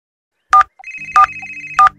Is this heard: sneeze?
no